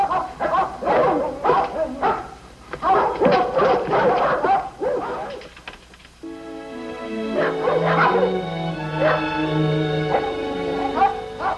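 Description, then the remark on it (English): A pack of dogs barks at midnight in quick, overlapping bursts, then breaks into long, wavering howls that rise and fall together, loud. “you'll have to come get these dogs today. They barked and howled all night, and none of us got a wink of sleep.”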